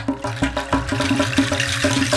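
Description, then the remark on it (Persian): A water tap gushes steadily while the pipes rattle and knock in a fast, regular rhythm, loud, with no voices. “یک دفعه صبر شیر آب سر اومد، لرزید و قر زد و صداش در اومد.”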